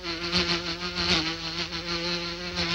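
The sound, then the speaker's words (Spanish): A mosquito buzzes steadily for the whole moment, a loud, continuous whine with slight wavering in pitch and no voices. “Un mosquito.”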